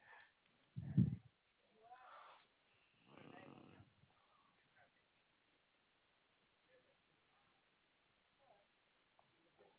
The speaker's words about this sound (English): Okay, I heard you there. You're yawning.